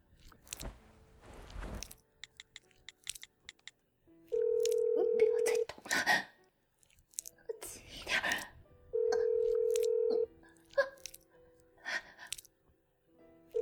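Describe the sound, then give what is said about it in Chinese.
Telephone tones sound over muffled rustling and breathy noises: two long, steady electronic beeps about four seconds apart, with scattered short clicks and blips in between, as a woman dials a phone to call her daughter. “我要打电话，我要打电话告诉我女儿了。”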